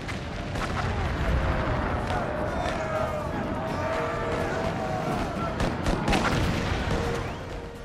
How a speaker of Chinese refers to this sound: 1863年7月3号下午，美国历史上著名的葛底斯堡战役打响了，南方邦联的130多门火炮集中火力对北军中段防线狂轰滥炸，北军瞬间伤亡数百。